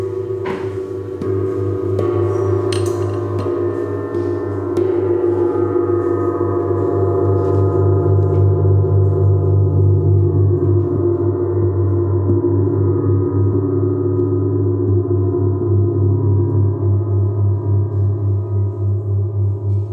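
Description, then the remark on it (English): A gong bought on Craigslist is struck, and its deep, shimmering hum swells and lingers, with layered low tones ringing steadily for the whole stretch without fading away. No one speaks. “Could you give me a medium loud hit?”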